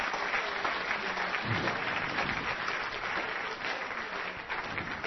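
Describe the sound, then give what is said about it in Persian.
An audience applauds steadily for about five seconds, a dense, even wash of many hands clapping at a constant, fairly loud level with no voices over it. “یه بار دیگه تشویقش کنین. مرسی تشویق.”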